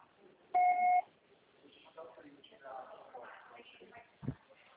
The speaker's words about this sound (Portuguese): Seu recado. Você só será tarifado após o sinal.